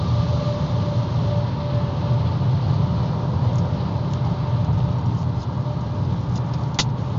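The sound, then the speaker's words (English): Deep, steady road rumble from a heavy gravel truck, loud and constant throughout, with a few faint ticks near the end and no talking. “Gravel trucks throwing rocks at me.”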